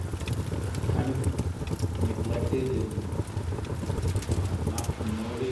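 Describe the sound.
Steady rain patters outdoors in a continuous, dense hiss at the lower part of a national park, at Oria Verde, with a crackling fire where food has been served despite the rain, and faint voices murmuring in the background.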